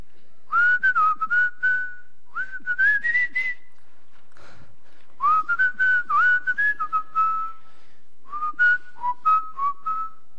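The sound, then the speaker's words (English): A person whistles a tune in four phrases separated by short pauses, the clear pitch sliding and stepping through a melody with faint breathy noise underneath. “There's a song that's been ringing in my mind.”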